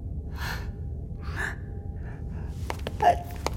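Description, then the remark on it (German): A few breathy, gasping inhales build up in turn before a sharp, explosive sneeze bursts out near the end, with a quieter low hum running underneath throughout. “Ach, und warum niest du dann dauernd?”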